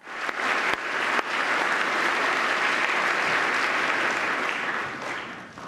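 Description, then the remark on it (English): Loud, sustained applause and a standing ovation from a large crowd during an address by the president, honouring the widow of a serviceman killed in Yemen, seated next to Ivanka Trump; a dense wash of clapping holds steady for several seconds with no one speaking over it. “the president really let the applause go on”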